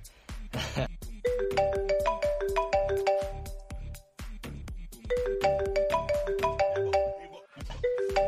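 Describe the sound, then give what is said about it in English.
A mobile phone in a chest pocket rings and vibrates with an incoming call, playing a bright, beeping electronic melody with a steady percussive beat, fairly loud, repeating its phrase twice with a short pause between. “My chest is so itchy. Something's vibrating.”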